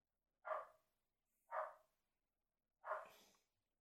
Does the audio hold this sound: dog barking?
yes